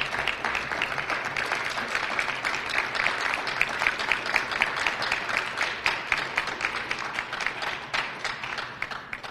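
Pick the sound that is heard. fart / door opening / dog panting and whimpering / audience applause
audience applause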